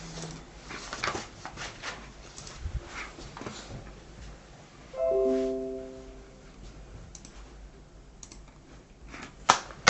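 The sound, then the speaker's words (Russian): A printer works: scattered mechanical clicks and rattles, with a brief whirring motor tone rising about halfway through and a few sharp clacks at the end. No one speaks. “Так, давайте пока печатается, будем считать.”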